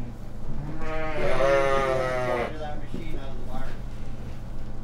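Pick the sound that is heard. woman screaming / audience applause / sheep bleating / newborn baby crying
sheep bleating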